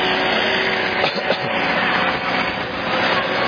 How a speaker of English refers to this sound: Comes that vacuum cleaner again.